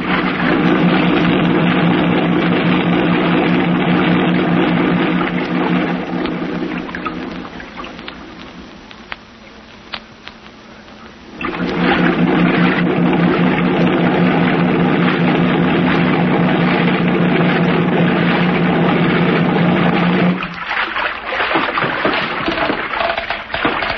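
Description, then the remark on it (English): A boat engine drones loud and steady over rushing, splashing water as the boat heads for the mainland, easing off briefly in the middle before throttling back up, then cutting out near the end. “Run the boat up alongside that old piling and tie her up”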